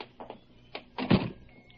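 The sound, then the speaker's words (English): A door opens and shuts: a couple of light clicks and rattles, then a louder thudding close with a brief scrape, all within about two seconds. “Come, I'll walk to the door.”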